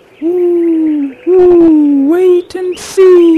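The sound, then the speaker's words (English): An owl hoots several times in a row, long drawn-out calls that slide slightly in pitch, loud, with short pauses between them and no talking. “The fox cried out, The tortoise doesn't have a chance. What do you think, owl?”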